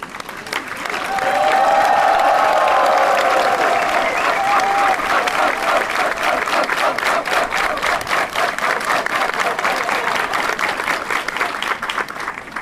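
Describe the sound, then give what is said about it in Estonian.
Sustained applause from a sizable audience at the Muhu song stage, given to the people of Muhu, swelling quickly and holding steady as a dense wash of clapping, with a few cheers rising above it early on. “Ja usun, et kõige esimene aplaus läheb Muhu rahvale.”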